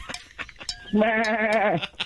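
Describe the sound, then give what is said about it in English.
A person imitates a sheep on cocaine: one loud, wavering, nasal "baa" held for nearly a second with a quavering tremble, after a few brief breathy noises. “Cocaine Sheep is going to be the sequel to Cocaine Bear.”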